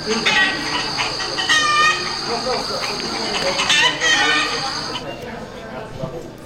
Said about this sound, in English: I had this prepped for my Kobolds game, so I got a lot of chicken noises.